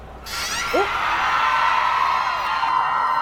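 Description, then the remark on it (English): A large crowd of fans screams and cheers in a dense, sustained roar that bursts in abruptly and holds loud for several seconds, with a single rising whoop cutting through early on. “And screaming fans are that way, so it looks like I am going this way.”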